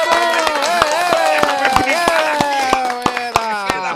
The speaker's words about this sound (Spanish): Es más, vamos a darle un aplauso a Roman. Un aplauso a Roman.